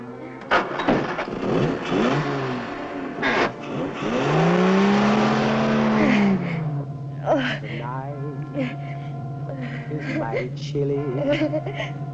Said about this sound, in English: As the Jag pulls away with the woman, the titles roll.